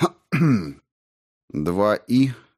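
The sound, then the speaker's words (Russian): A person clears their throat: one short gravelly burst, a brief pause, then two more quick rasping grunts in succession. No words are spoken. “откашлялся.”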